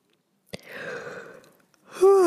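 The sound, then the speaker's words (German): A person yawns: a long, breathy inhale followed by a voiced, drawn-out exhale that slides downward in pitch. Fairly loud, with no talking. “Bei mir kommt direkt ein Gähner, eine Entladung.”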